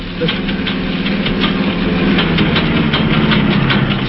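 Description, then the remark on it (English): A car engine runs roughly and unevenly, with a steady low rumble broken by irregular knocking pulses, fairly loud, sputtering and struggling to keep going as the car breaks down. “There's something wrong with the engine. It's packing up.”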